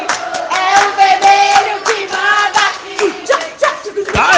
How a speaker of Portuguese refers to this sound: Vamos, nosso grito de guerra. A galerinha do vermelho vai tá fazendo o grito de guerra deles agora.